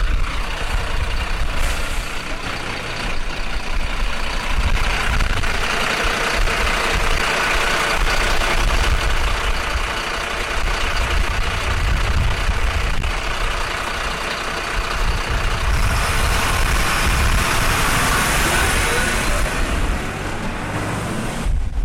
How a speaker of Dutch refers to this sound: Het was een echte diesel, een oude brandweerwagen.